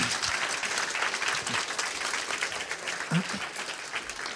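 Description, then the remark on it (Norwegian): Steady audience applause, a dense wash of many hands clapping at an even loudness for several seconds, with a few faint low vocal murmurs mixed in. “Gjerne, applaus.”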